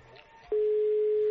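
A faint, murky background suddenly gives way to a loud, steady telephone line tone as a phone number is dialed to call a contest winner; the tone starts abruptly and holds unbroken to the end, clear.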